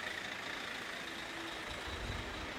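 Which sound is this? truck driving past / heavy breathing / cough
truck driving past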